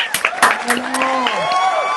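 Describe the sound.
An audience applauds a female co-host steadily for a couple of seconds, with scattered sharp claps over a dense patter, mixed with cheering voices and a few high, drawn-out shouts.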